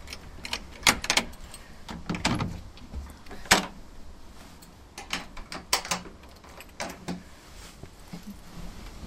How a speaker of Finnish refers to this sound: Nyt avataan ovi. Joo, no niin.